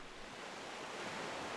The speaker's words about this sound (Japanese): ほら、聞こえるでしょう、波の音。